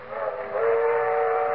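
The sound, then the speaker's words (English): A train's whistle sounds a long, steady, loud blast that swells slightly as it goes, layered over the rumble of a passing train. No one speaks. “They're traveling south by train this year.”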